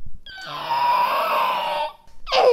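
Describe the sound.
A child's voice imitates a raptor call: a long, shrill, raspy screech held for almost two seconds, followed by a brief second squeal that slides downward in pitch.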